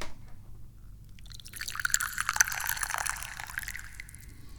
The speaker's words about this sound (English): Yes. And how do we start this up? We start this up by pouring some tea.